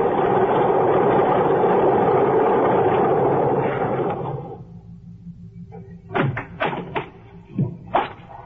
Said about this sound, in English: I am listening to the most beautiful sound in the world. I got to the airport just as the plane taxied up the strip. Single engine job. Just right.